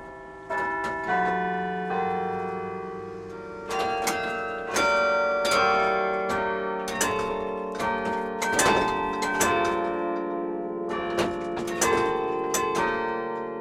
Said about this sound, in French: C'est l'octave le plus aigu. Alors évidemment, ici, on entend beaucoup le son de la cloche, mais aussi le son de la touche. Et dehors, bien sûr, on n'entend que la cloche, on n'entend pas le son de la touche, hein, du tout.